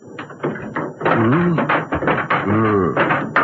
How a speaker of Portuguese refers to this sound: Bem, aqui tem um martelo e um pé de cabra para levantar as tábuas. Uhum. Mas quem é que vai abrir? Deixe comigo, me dê o martelo e o pé de cabra.